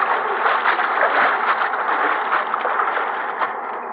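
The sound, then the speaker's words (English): A waterfall's rushing water roars steadily and fairly loudly for the whole stretch, heard from a dry cave behind the waterfall, a dense continuous hiss with no voices, easing off slightly toward the end. “Behind the waterfall. There's a dry cave.”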